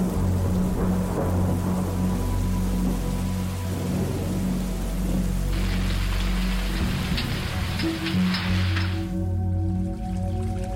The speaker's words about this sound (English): But December brings the first welcoming rains.